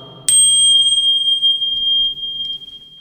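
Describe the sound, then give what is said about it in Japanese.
A Buddhist rin bowl bell is struck once, giving a bright, high-pitched ring that hangs in the air and fades slowly over a few seconds, with no voices. “ああ、いい檻の音ですね。”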